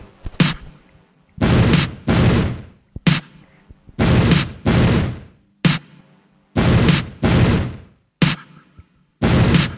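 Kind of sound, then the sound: sound effect, gunshot sound effect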